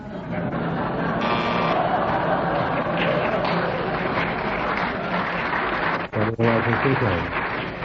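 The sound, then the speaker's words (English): A sustained round of audience applause, dense and steady for several seconds, fading briefly before a voice rises near the end. “There was a long pause, wasn't there? There was, yes, because you were waiting for his applause.”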